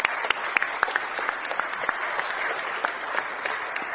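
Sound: audience clapping together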